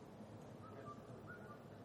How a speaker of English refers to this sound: What kind of bird is that? Starling? Troublemakers?